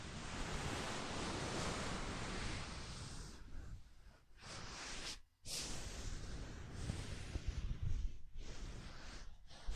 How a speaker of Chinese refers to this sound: 像不像海浪的声音啊？